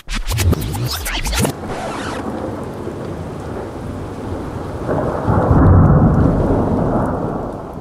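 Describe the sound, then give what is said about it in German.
A sharp, crackling thunderclap opens, then steady heavy rain hisses throughout while a deep rolling rumble of thunder swells again near the end. No one speaks. “Grelle Blitzer, Donner, Sturmböen, Peitschen und Soldaten platschen es.”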